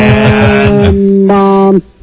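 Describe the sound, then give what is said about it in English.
A voice imitates a dial-up modem connecting, going from dial-up speed to high-speed internet: a loud, buzzy, steady screech of layered tones with a few quick warbling pulses at the start, then a sudden cutoff into near silence. “I love listening to your modem.”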